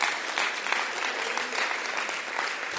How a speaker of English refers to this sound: Let's give him a clap.